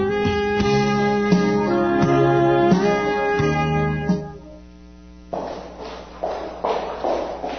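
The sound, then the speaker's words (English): A sustained tonal, musical passage fades, then a few footsteps tread on a hard street surface, spaced unevenly, with no voices. “Imagine walking down the street and hearing footsteps behind you. They get closer and closer, and suddenly you have a sense something bad is going to happen.”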